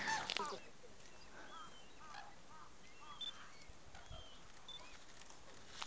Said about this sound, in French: Chaque fois que vous entendez ça, c'est les aigles qui se battent. C'est cri, aigu.